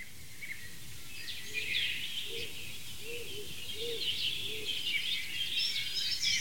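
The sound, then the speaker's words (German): A wild dove gives a series of about five soft, low coos in steady rhythm, while other small birds chirp and twitter busily in the background of a forest. “Scout-Taube? Wie nennen sie deswegen so, weil sie so heimlich ist im Wald?”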